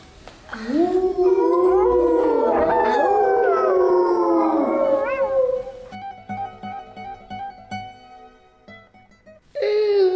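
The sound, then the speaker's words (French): A long, eerie werewolf howl rises and wavers for several seconds, loud, in a forest at night, then fades into quieter ringing tones before a sudden loud burst of sound at the very end. “Mais une bête rôde, un loup-garou.”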